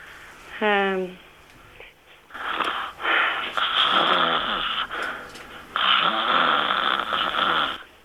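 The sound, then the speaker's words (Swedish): Someone deliberately fakes snoring: three loud, rasping snores in a row with short gaps, after a brief vocal sound at the start. “Och så gör du 3 snarkningar på rad.”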